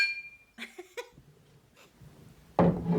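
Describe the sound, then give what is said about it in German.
A cup and a glass clink together, leaving a brief high ringing tone that fades, followed by a few soft knocks and a louder rustling burst near the end. “Ich habe jetzt eine Tasse und ein Glas, das hier stand, zusammengeditzt.”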